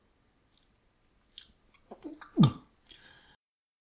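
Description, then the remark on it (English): Quiet chewing of a soft berry: a few scattered wet bites and smacks over about three seconds, peaking in one louder squelchy munch, with no talking. “You can either chew it, suck it, or swallow it whole.”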